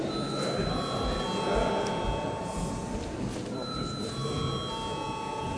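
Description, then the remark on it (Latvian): A parliament voting bell rings continuously for several seconds before deputies vote on proposals, a steady, sustained electric tone holding at an even level over a low background murmur of voices. “Lūdzu zvanu!”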